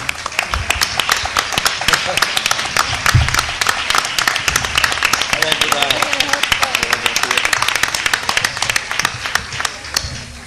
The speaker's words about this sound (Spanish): Que suba, por favor. Fuerte aplauso.